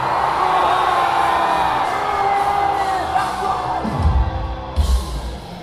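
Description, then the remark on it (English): A huge concert crowd screams and yells together on a count of three, a loud, sustained roar for about four seconds, then the noise thins out as a few low thumps sound near the end. “Wait, I count to three, and then I want you all to scream the shit out of your fucking bodies.”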